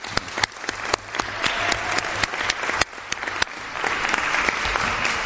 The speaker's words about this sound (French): Bienvenue, et puis on peut l'applaudir pour le remercier.